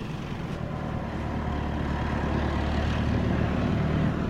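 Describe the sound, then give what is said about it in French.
A tractor engine runs steadily, a loud, continuous low rumble with a droning hum that holds even throughout, with no voices; a farmer drives the tractor while tending young cows. “Là, c'est mon père, là, dans le tracteur.”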